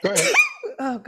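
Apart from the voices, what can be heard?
human sneeze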